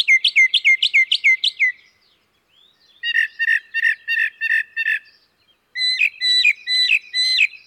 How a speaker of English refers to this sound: The mockingbird's song has the same tonal quality as a thrasher or catbird, but the mockingbird repeats most phrases two or more times, so we hear most of its sounds in triplets or more.